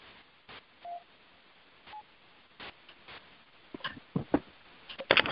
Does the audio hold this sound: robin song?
no